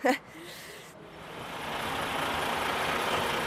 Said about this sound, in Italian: Questo camion è venuto qua a portare il materiale inquinato, adesso va a scaricare, dopo torna, si fa la tara e io gli faccio il bollettino.